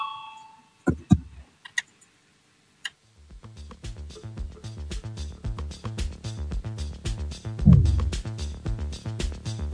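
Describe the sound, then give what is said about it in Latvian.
A parliamentary voting bell rings continuously with a rapid, steady metallic rattle, fairly loud, following a short chime and a few scattered clicks, calling members to vote on an amendment; no one speaks. “Lūdzu, zvanu balsosim par 36. tieslietu ministra Bordāna priekšlikumu.”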